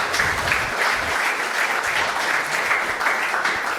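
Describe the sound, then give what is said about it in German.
An audience at an event's closing claps steadily for the helpers seated there, a dense, even wash of many hands with no pauses, holding at a strong level throughout with no talking over it. “Also großen Applaus an euch, die ihr da alle sitzt und alle, die nicht beim Closing dabei sind.”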